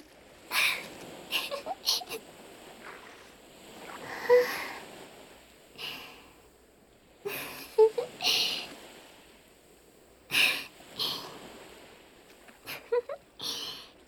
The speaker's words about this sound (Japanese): 優しい月の光を浴びながら足の裏の砂を波がさらっていく感触を楽しむ、これはとても贅沢な体験なのではないでしょうか。